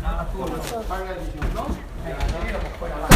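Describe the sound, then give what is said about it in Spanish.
Someone bangs on a door and knocks it down, with several heavy, irregular thuds while people talk nervously. A final blow at the end lands loudest. “Mire, están golpeando. Joder. Ya golpearon. Nos golpearon, nos tiraron la puerta.”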